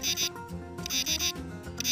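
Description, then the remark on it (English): A katydid, a long-horned grasshopper, chirps by rubbing its wings together in a steady rhythm, about five raspy, buzzing pulses over two seconds, fairly loud and high-pitched, with a sustained low tonal hum underneath and no talking. “By rubbing their wings together, these insects produce a distinct, loud chirp, like singing, "Katydid, Katydidn't."”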